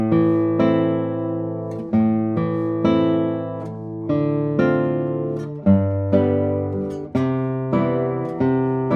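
A guitar strums full chords of three or four tones ringing together as one blended tone. Each is struck roughly every one to two seconds and sustains and fades before the next. No voices.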